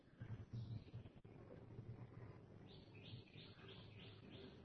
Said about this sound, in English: Then birds start singing, and it is not the words, but you.